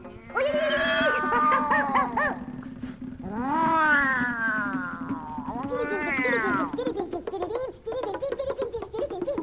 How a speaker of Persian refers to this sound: اگه گرگ حمله کنه، گربه کند میاو میاو